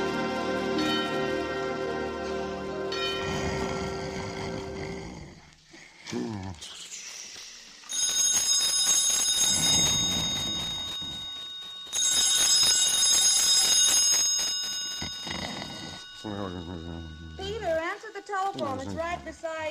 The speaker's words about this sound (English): The phone?